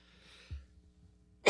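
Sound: sneeze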